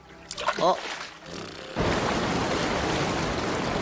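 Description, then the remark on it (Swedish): A short vocal sound comes first, then a loud, steady roar of rushing water from a very large waterfall cuts in abruptly and continues unbroken, enveloping. “De säger att det är ett vattenfall! Ett jättestort!”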